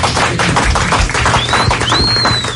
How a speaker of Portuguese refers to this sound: Tá vendo? Até as mulheres aplaudem, é isso mesmo.